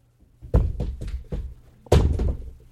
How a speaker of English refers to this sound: No, you're dropping a water bottle. You're not going to lie to my audience. What? You dropped your water bottle.